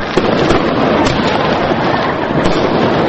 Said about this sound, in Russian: В канун Нового года тбилисские дворы на несколько минут погрузились в пороховой туман фейерверков. Небо озарилось огоньками самых разных оттенков, но некоторые тбилисцы не успели насладиться зрелищем.